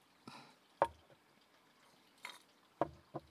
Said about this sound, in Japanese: 氷の音キューキュー言うの聞こえますよね。